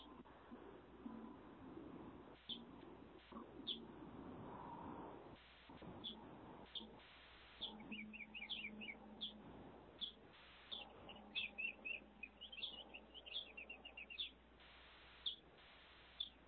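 Birdsong chirping outdoors, with repeated high, bright tweets scattered throughout and clustering into quick trills in the second half, set against a steady background hiss.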